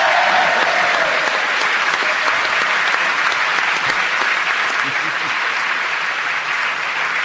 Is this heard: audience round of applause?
yes